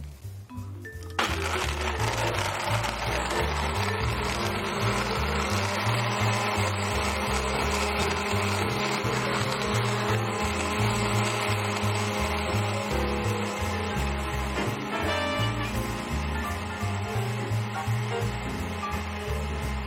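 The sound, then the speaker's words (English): A blender roars on high speed for two minutes, a loud, steady whirring grind with a rattling, churning texture as nuts are pulverized to make smooth nut milk, starting abruptly after a brief quiet moment and running continuously to the end. “Now it's going to get very noisy. We're going to blend this on high for 2 minutes.”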